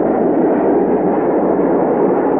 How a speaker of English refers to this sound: Well, what's that? Oh, that's the jet taking off from the north runway. It'll pass right over the house.